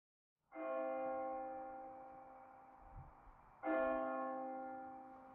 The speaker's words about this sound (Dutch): En dan slaat de klok 12 uur.